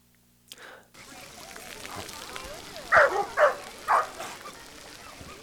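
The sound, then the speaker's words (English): Several sharp dog barks ring out in quick succession over outdoor ambience and splashing water at the Roosevelt Activity Pool in Longmont during its annual Dog Days doggy paddle event, with faint voices murmuring in the background. “With many municipal outdoor swimming pools closing for the season, some communities are marking the occasion by opening their pools to dogs.”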